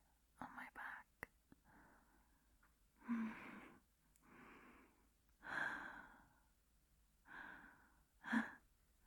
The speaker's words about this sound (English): And I can feel your breathing.